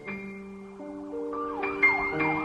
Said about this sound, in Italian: E di nuovo sento il suono delle sirene, eco di quelle storie lontane. Brividi lungo la schiena. Penso che per i bambini in Iraq quelle sirene non sono mai state storie lontane.